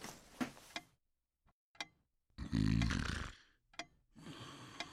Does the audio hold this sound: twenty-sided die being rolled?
no